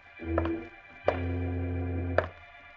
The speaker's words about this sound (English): Frozen with fear, the little midget and Jimmy Olsen listen as the heavy thumping steps of the man Freddy says is the dreaded boot approach their door.